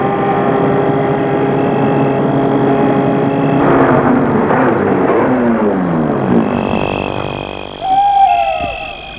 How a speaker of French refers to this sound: Il va arrêter sa voiture devant le portail.